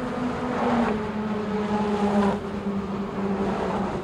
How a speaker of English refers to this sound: The Brooklyn Bridge, 7 a.m.